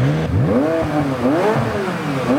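A McLaren 570S Spider sports car engine fires up and revs repeatedly, its pitch sweeping up and down in rising and falling waves, loud with a throaty exhaust rumble.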